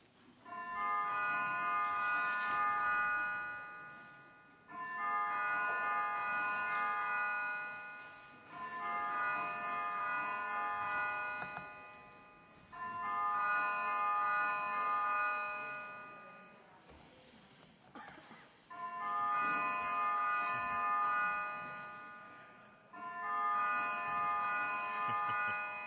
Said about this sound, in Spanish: En cuanto acabe la campana. Es para que quedara claro que íbamos a votar.